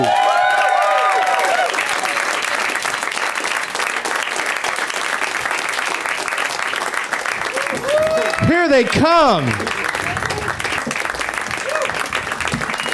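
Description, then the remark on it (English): Steady applause from an audience welcoming four guests, Moshe Kasher, Natasha Leggero, Rob Hubel and Jimmy Pardo, fills the whole stretch, a dense crackle of clapping that holds at an even level while a voice briefly speaks over it partway through. “A little light on the applause, but...”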